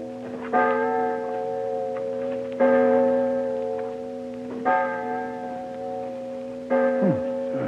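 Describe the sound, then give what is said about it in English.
A clock strikes four slow, resonant bell tones, evenly spaced about two seconds apart, each ringing out and lingering before the next. No one speaks. “Clock, Holmes.”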